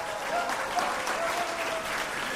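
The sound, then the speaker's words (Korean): A crowd claps steadily at the award ceremony of a student unification debate contest, held after the high school final. A dense wash of many hands applauds at an even moderate volume without a break, with no speech over it. “통일 공간 대토론회 시상식을 시작하겠습니다. 박수 주세요.”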